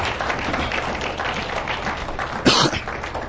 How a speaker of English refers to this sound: To God's glory, I'm standing here speaking to you guys this morning. Give him a clap. Give him a hand of clap.